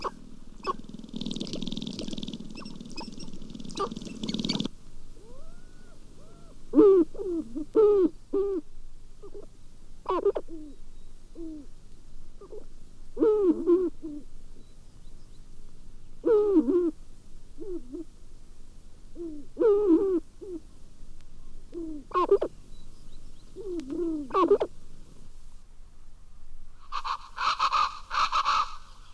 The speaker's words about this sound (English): Gobbling, clucking, and quill rattling of the sharp-tailed grouse on their dancing grounds among the willows and birches can be heard from northern Michigan and Wisconsin to Alaska. Recorded in Wisconsin.